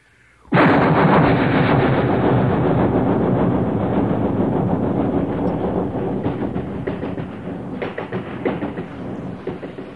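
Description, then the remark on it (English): A loud, continuous rumble of a long moving train starts abruptly and holds steady, with rattling clatter and rhythmic clacks growing more noticeable toward the end. No one speaks. “You can hear this sound anytime you happen to be around a train.”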